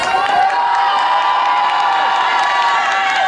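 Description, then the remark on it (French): A teacher's school class of children cheers and shouts together in a loud, sustained burst of high-pitched voices, an excited champion's welcome for a visitor, holding steady for a few seconds without any clear speech. “Certaines personnes vous ont suivi et vous ont même attendu, du coup, comme cet enseignant qui a été séduit par votre démarche et qui vous a réservé, avec sa classe, un accueil digne d'un grand champion.”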